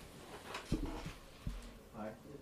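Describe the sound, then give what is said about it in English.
A door being opened, marked by two short, thudding clunks, with faint murmuring voices in the background. “Yeah, I'll take it open the door.”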